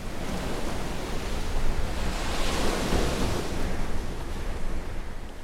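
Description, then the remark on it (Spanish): Heavy surf roars steadily as large ocean waves up to 6 metres high crash and churn during a category 5 hurricane striking a coastal city, a dense, loud wash of water with gusting wind, swelling slightly in the middle before easing. “Del mar llegaban grandes olas de hasta 6 metros de altura.”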